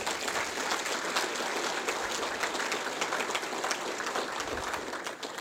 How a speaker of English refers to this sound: And so thanks so much to these sponsors. If we get a round of applause, all these sponsors, please.